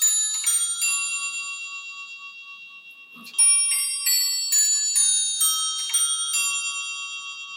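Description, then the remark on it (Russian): An antique clock, by legend once Tchaikovsky's, chimes the three-quarter hour, a sequence of clear ringing bell tones struck one after another with long shimmering decays, fairly loud, with a short pause midway and no talking. It chimes every 15 minutes. “Три четверти бьют, да? Да, они каждые 15 минут.”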